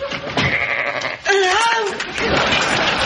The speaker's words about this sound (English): There are sheep in my office. Oh, sheep.